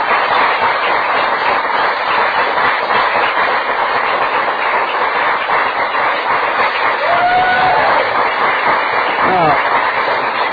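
A studio audience applauds loudly and steadily for a TV show's 20th anniversary on KDOC, Channel 56 in Orange County, a dense wash of clapping that fills the whole stretch without letting up, with a faint voice or two briefly audible beneath it.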